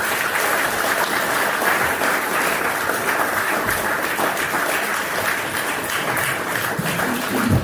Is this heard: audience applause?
yes